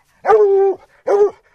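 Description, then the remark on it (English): Walker Red Tick hunting hounds that have picked up fresh scent of a cat in a canyon bay loudly: a long, drawn-out, tonal bawl followed after a short pause by a second, shorter one. No voices are heard. “Within minutes, the Walker Red Tick hounds have picked up fresh scent.”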